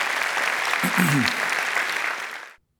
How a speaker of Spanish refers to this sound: Si Dios la bendice, un aplauso al Señor que Él se lo merece. Amén.